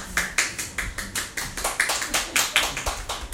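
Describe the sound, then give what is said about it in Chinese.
Soft, light hand clapping: a dozen or so quiet, uneven claps over a few seconds, somewhat irregular, as if a few people are clapping half-heartedly. No one speaks. “第一个拍手的算是功德无德最大，他拍得太过勉强小声了。”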